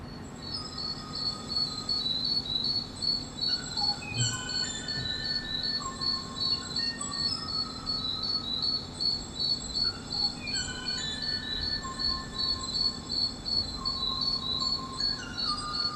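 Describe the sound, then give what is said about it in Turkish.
The last surviving recording of the Kauai bird's song, from a species that died out about 30 years ago, its last bird dying in 1987: sparse, short whistled notes rise over a steady, shrill insect-like chorus that buzzes continuously. No voices are heard. “30 yıl önce nesli tükenen Kauai adlı kuşun elde kalan son ses kaydı var”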